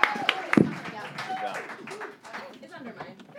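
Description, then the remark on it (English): Audience applause for the guests of the show Broadwasted, a dense, steady patter of many hands clapping over a few seconds, with a few sharper claps at the start and voices cheering and calling out underneath. “Everyone give a huge round of applause to these magical people.”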